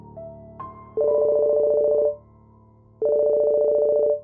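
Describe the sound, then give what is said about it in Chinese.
A mobile phone ringtone rings from inside a leather bag: it starts with a couple of short electronic beeps, then plays two loud, steady buzzing tone bursts about a second long each, separated by a brief pause, with no voices. “马院长的皮包里传出了手机铃声。”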